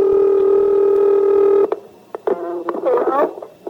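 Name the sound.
telephone ringing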